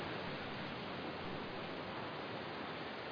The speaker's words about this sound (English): As calming as that ocean was coming in and out, think about our lives.